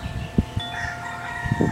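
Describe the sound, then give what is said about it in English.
A rooster crows in a long, drawn-out call with steady harmonic tones, heard clearly at moderate loudness with no one speaking. “And to just feel that there's this rooster singing hallelujah.”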